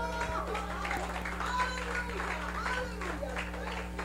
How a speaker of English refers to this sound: If you received it, I thought you will give God a clap offering.